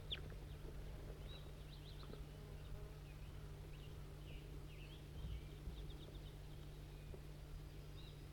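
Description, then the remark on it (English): A wild female bird, apparently without a band, gives faint, high chirps in short scattered bursts over a steady low buzzing hum, with no one talking. “Start recording, wild bird.”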